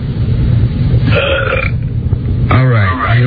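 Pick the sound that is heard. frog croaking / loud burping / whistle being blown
loud burping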